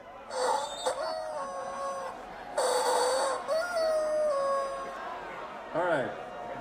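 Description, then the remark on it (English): A Screaming Chicken rubber toy lets out shrill, wailing squeals in three bursts: two long, strained screeches with wavering pitch, then a short warbling squawk at the end. “This is the Screaming Chicken, just so you know.”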